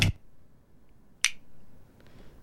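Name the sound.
castanets clicking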